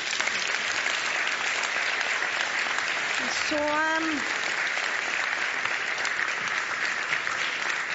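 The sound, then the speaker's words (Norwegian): An audience claps steadily for several seconds for a panel, a dense, even wash of applause, with a brief voiced sound briefly rising above it partway through. “Dere kan også klappe for dem.”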